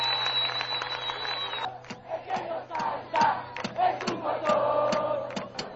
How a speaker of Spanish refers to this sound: Y un especial aplauso para la banda